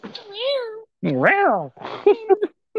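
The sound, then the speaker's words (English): Women's voices mimic a cat fight: a long wavering meow, then a loud rising-and-falling yowl, followed by a burst of short, clipped meows and hisses, all fairly loud. “And then they start fighting, and a little cat fighting with cat sounds.”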